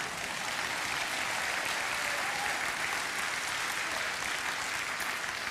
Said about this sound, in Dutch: Ik zei in de eerste dienst al, dit is de eerste keer dat ik van een zaal applaus krijg voor mijn pianospel.